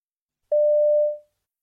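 A single steady electronic mobile phone tone sounds once, clear and fairly loud, lasting under a second before fading out, with no voices present, as a boy calls a friend on his mobile phone.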